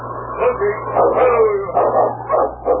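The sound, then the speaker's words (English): A sled dog team barks and yips in an excited, overlapping chorus, loud throughout, over a low steady hum. “look, a dog team.”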